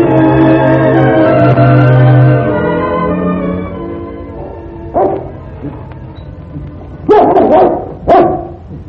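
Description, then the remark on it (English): A dog barks in short, sharp bursts, three loud yaps spaced a second or two apart, following a long, low, drawn-out tonal sound that fades gradually. “Bark at me, dog.”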